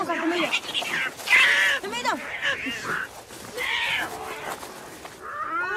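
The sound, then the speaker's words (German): Two cats, one black and one white, fight inside a circle with loud yowls and screeching cries that overlap and rise and fall in pitch, with hissing bursts between them, continuing for several seconds. “Die schwarze Katze hat gewonnen.”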